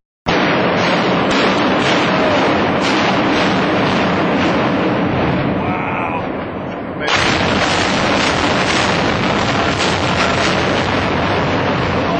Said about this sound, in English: I'm going to play a sound clip for you right now. And the sound clip you're gonna hear is the bombs being detonated in an actual building implosion.